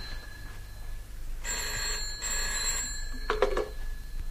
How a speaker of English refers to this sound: Oh, dear, there's the phone. Shall I answer it?